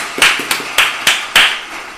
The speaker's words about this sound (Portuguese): Batam palmas aí em casa, pessoal.